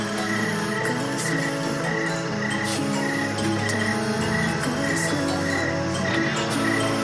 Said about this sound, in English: All right, I'm going to remove the thunderstorm, but I will bring up some crickets and other creatures of the night from Pennsylvania.